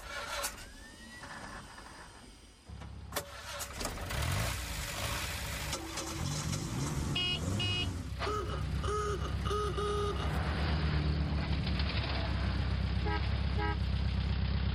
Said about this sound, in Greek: Αυτοκίνητα.